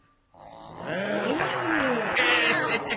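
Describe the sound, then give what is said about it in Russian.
A group of people imitate roaring lions and tigers, a sustained chorus of growling, rumbling roars that starts abruptly after a brief pause and stays loud throughout. “А рычать, как и вы, и тигры, можете?”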